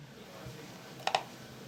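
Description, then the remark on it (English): Two quick, crisp clicks of computer buttons in close succession over a quiet low background hum with no one talking. “You're clicking the wrong one. The wrong button.”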